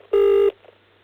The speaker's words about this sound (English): You know, you forget how much effort and how much time it used to take just to dial a phone number. I mean, my finger feels like a bratwurst.